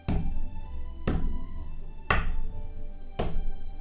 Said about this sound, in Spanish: cuando de pronto unas grandes pisadas se oyeron venir.